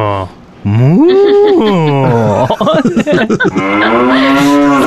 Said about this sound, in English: Maz complained to Jeb that we couldn't eat cows because they irritate me when they moo near my house. And he replied, "Who said you won't be able to eat cows?"